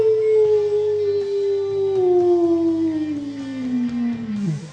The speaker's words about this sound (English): The wolf threw his head back and howled a long song of hunger and hunting that accompanied Richard in his flight around a bend in the path and out of sight.